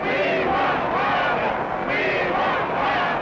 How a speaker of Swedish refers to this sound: Och det här talet avbryts ju flera gånger av jubel och applåder och skanderingar som på en hockeymatch. Bara, we want Wallace! We want Wallace!